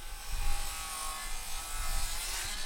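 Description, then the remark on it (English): Steady, grinding saw noise from contractors working at a bakery property under construction, a harsh hiss with a low rumble beneath, holding at moderate loudness throughout without any pause or voices. “Instead of wood ovens smoking, the saws are going.”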